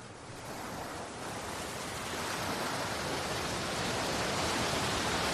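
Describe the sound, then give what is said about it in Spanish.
Sea waves wash and break steadily on the shore, a continuous broad roar of surf that swells slightly louder toward the end, with no voices present. “Ahora nos lleva al mar.”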